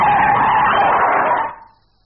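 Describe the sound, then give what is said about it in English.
An aircraft landing on a helicopter pad brakes, skidding loudly for about a second and a half in one harsh, sustained scraping screech, then cutting off abruptly into near silence. No one speaks. “God, the brakes are good on these things.”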